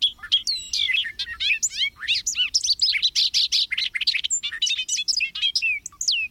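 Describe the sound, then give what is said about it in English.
A bobolink's long, bubbling song from the Macaulay Library at the Cornell Lab of Ornithology: a rapid, jumbled tumble of high, metallic and tinkling notes that pour out almost without pause, loud and clear with no voices. “Bobolinks are in steep decline, one of the unintended consequences of haying, burning, and overgrazing.”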